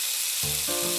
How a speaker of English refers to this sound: Just the sound of something sizzling and then Barry Fry laughing.